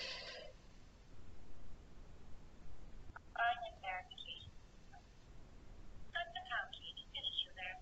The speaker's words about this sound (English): So it requires me to press the pound key to finish the verification.